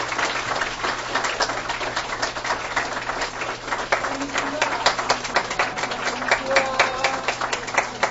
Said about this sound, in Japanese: はい、じゃあ劇団の皆さん入られます。大きな拍手でお願いします。